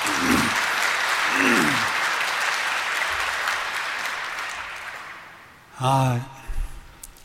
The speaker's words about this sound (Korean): 예. 자, 박수로 마저.